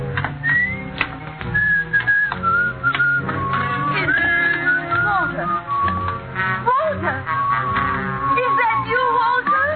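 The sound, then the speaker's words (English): Walter, played by Dane Clark in Life Ends at Midnight, whistles a melodic tune, the pitched notes gliding and sliding over a busy, steady background of other sounds, clear throughout. “You still remember my whistle, eh?”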